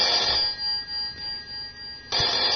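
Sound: phone ringing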